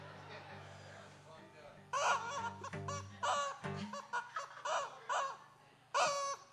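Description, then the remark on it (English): A turkey call rings out among clucking chickens, a run of loud, nasal, harmonic calls in short repeated bursts over a low, steady background hum. “I think that's a turkey call in there.”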